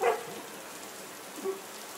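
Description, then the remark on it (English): A small dog, out on its own, gives a short, high yip at the start, then a faint whimper a moment later, over a steady patter like rain. No one speaks. “I'm serious, little dog.”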